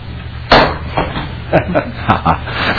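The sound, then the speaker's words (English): A single loud, sharp gavel strike rings out to officially start a meeting, followed by a few softer knocks and thuds at an uneven pace over a steady low hum. “So do I need to hit the gavel to officially start it, or?”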